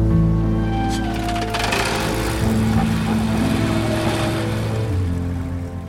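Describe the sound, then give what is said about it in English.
A motorboat's engine drones steadily, with a low harmonic hum and a wash of water and wind noise around it. The throttle shifts slightly now and then; no one speaks. It is Dexter Morgan driving his boat in the TV series Dexter. “So where is Dexter driving his boat, and where does his life go from there?”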